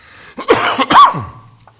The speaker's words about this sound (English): have a coughing fit. I got a cold, and then it seemed to go, and then it came back again.